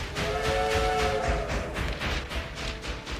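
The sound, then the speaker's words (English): A through freight train coming out of a forest rumbles along the tracks with a steady, rhythmic chugging, loud, with a brief tonal whine riding over the noise early on. “A train appears out of a forest and chugs toward them.”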